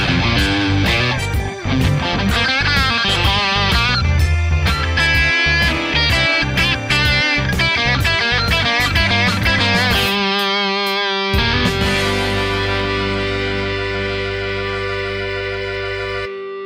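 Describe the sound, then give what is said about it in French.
Distorted electric guitar with an ash body plays over a backing track with drums, then ends on a single chord held for several seconds, ringing on with long, slowly fading sustain. No one speaks. “constate au passage un excellent pardon, sustain de cette guitare.”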